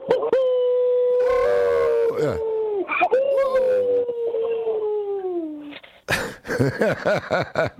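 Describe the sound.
A person imitates a wolf howl, holding a long, sustained wavering note that slowly slides downward for several seconds, followed by a burst of clapping and cheering.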